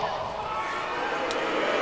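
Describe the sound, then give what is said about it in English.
A large crowd boos in a steady, continuous roar of many voices, holding an even loudness for the full two seconds with no single voice standing out. “They're booing because this is stupid.”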